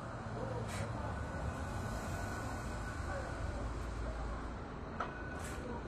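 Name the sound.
city bus arriving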